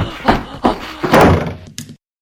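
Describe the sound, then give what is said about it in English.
Heavy, booming thuds pound against the solid reinforced door of an X-ray room as someone tries to get through, four or so loud blows in an uneven rhythm, with a longer rumbling impact in the middle and no voices. “He'll never get through that reinforced door!”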